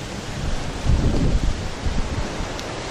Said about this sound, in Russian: Этот самый риэлтор сказал, что здесь ветра меньше, чем вот там, где мы гуляем у маячка у нашего, потому что там как-то вот, ну, очень такое более ветреное место.